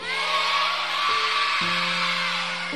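A large church audience shouts a loud, sustained amen together at the preacher's call for the loudest one, a dense roar of many voices filling the space, with a steady low droning note held underneath.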